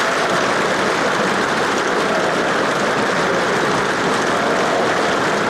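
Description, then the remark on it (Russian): Thunderous applause from a large crowd of delegates, the whole hall on its feet, fills a palace hall as Stalin is given the floor, a dense, steady roar of clapping that stays loud and unbroken throughout, with no voices standing out. “Весь зал поднялся. Громовые овации сотрясали здание дворца.”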